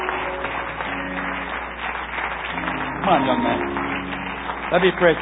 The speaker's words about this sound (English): Keep on applauding. Here they come. Keep on coming.